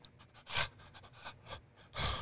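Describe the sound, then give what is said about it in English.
Heavy, rhythmic panting breaths, several loud breathy bursts in quick succession with softer ones between, no talking. “Yeah, if you're not breathing hard, you ain't doing it right.”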